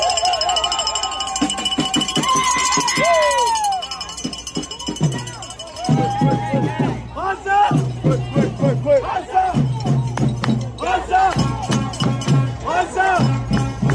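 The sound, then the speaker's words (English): A protest crowd on a bridge, blocking traffic and lighting traffic flares, chants and shouts in unison, rhythmic call-and-response bursts of many voices over a steady low rumble, with whistles and a loud, dense, continuous energy throughout. “It was one of several similar protests nationwide. Here's a little bit of what it sounded like.”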